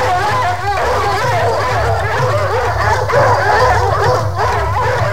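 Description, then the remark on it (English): A pack of dogs, being turned loose to chase a fleeing man, barks and yips excitedly without pause, loud, their overlapping cries layered over a steady low rumble in the background. “Let the dogs go!”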